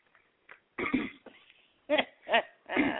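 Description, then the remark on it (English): A man clears his throat several times in a row: rough, raspy bursts, some with a gruff voiced edge, separated by short pauses, with no talking in between. “You clear my throat.”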